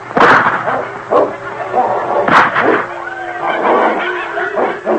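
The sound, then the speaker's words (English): Two sharp gunshots crack out a couple of seconds apart, fired at wolves fighting a dog named King in knee-deep snow, amid continuous snarling and growling from the dog and wolves, the animal noise loud throughout. “Those wolves won't stand up to gunfire.”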